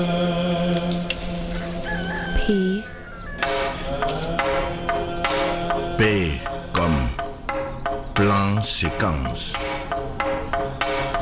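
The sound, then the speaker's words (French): A rooster crows a couple of times, loud and drawn-out, over a dense, continuous backdrop of city noise with rumbling and clanking, at 5 a.m. in Bucharest, Romania. “On est à Bucarest et c'est l'heure de la messe, des chiens, des coqs et des tramways.”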